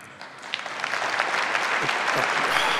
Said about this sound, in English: Don't clap.